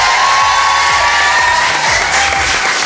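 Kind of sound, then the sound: crowd, audience applause and cheering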